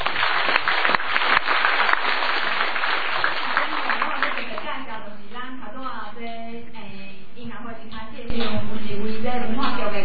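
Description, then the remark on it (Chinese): An audience breaks into warm applause for the guests and performers at an event, a dense, fairly loud wash of clapping for about four seconds that fades out as a man starts speaking. “先来一个温暖的掌声”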